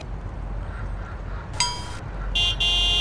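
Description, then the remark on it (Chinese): Two car horn honks cut through a steady low rumble of idling traffic in a traffic jam, a short blast first, then a longer, louder blare near the end, with no voices present. “堵车就堵车呗”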